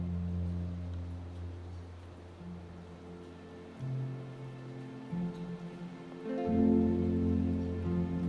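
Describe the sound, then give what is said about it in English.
Gentle rain falls steadily outside as a soft, continuous hiss, beneath a low, sustained ambient drone whose pitch shifts a few times. No one speaks. “Listen to the gentle rhythm of the raindrops outside.”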